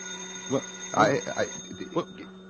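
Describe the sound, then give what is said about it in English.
A telephone rings with a steady, high-pitched bell tone that holds throughout, while people talk over it in short bursts. “I'll get the phone. There'll probably be another job, and we'll never get out of here. Let it ring.”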